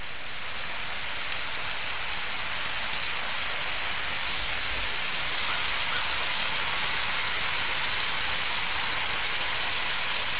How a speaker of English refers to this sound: I'm speaking to you from the south shore of Nova Scotia. I'm sitting on the south bank of the Broad River at low tide. Here the Broad River meets the Atlantic Ocean at the end of a long white sand beach.